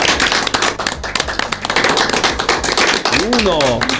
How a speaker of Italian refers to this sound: grazie gruppo 3 della Famiglie 5 che ci avete presentato questa storia meravigliosa. Facciamoli tutti insieme un applauso.